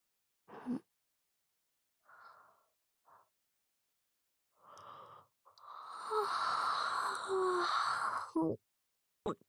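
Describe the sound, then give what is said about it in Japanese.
A big drawn-out yawn lasting a few seconds, breathy with a voiced, wavering tone, preceded by a few short soft breaths and small vocal sounds and ending in a quick exhale. “うちの耳かきが終わるといつも目がとろーんってなって、まぶたが薄く開いたり閉じたりを繰り返して、おっきなあくび出るもんね。”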